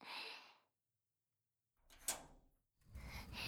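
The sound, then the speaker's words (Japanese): The heavy door of a sealed gym storage room scrapes and rumbles as it slides open, with a sharp clunk partway through and a rough grinding tail, with no voices. “ああ、扉開けたら涼しい。”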